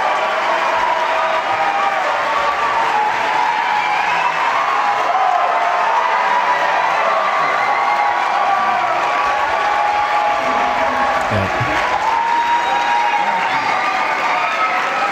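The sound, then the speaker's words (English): A large crowd cheers and applauds continuously, a dense, loud wash of clapping and shouting voices with occasional whoops rising above it, sustained evenly throughout. “Crowd.”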